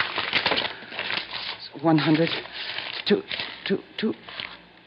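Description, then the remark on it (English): Close, steady papery rustling and crinkling as a stack of bills is riffled through, with a few brief murmured voice sounds breaking in partway through. “Sure you want to count it, but you'll find it's all there.”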